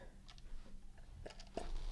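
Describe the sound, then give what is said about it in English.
Soft, wet mouth noises, a few brief slurping sips of a drink with quiet swallowing and smacking sounds in between, no talking. “I do have a beverage to drink yes”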